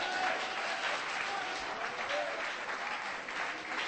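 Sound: audience clapping hands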